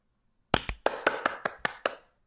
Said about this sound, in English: I will clap twice and then the sound effect will appear.